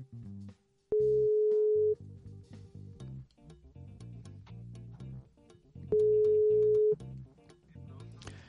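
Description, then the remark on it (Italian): An outgoing WhatsApp call rings unanswered: two loud, steady ringback tones, each about a second long and several seconds apart, over quieter rhythmic music playing in the background. “Non risponde, non prende il telefono.”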